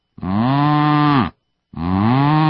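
A cow moos twice, each call a loud, drawn-out low bellow lasting about a second, separated by a brief silence, with the second moo cut off at the end.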